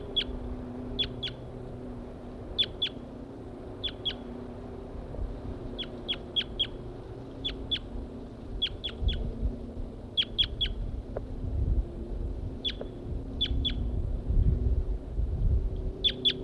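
A wild male bird sings a high, sharp song of quick notes in pairs and triplets, repeated at steady intervals over a low, constant rumble.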